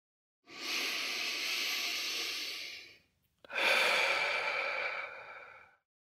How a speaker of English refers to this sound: And we'll begin by taking a few deep breaths, breathing in through the nose and out through the mouth.